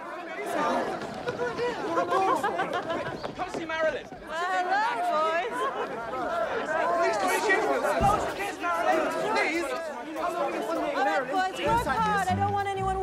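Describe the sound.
A lively crowd of pupils chatters all at once in a cobbled school courtyard as they surround Marilyn Monroe, a dense, continuous babble of young voices with overlapping talk and occasional higher calls, steady throughout with a brief dip midway.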